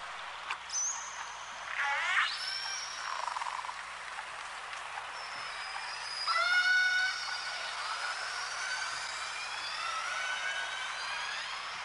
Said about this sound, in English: So each pod or group of killer whales has a group-specific repertoire of complicated calls that sounds sort of like those pilot whale calls, and they can identify the group by listening to the repertoire of calls that are made.